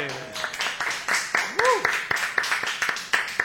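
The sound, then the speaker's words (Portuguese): A small group claps hands steadily for a few seconds, the sharp irregular claps overlapping into light applause, with a voice briefly calling out over it, after the music is cut, to celebrate a friend who is the newest intern at the newspaper O Lance. “Momento que nós temos que todos bater palmas agora.”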